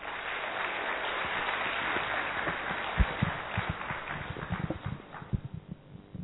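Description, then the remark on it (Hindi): Audience applause, a steady wash of claps that thins into scattered, slower individual claps toward the end, moderately loud with no talking. “जोर से तालियां बजाएंगे तो धीरे धीरे बजा रहे हैं।”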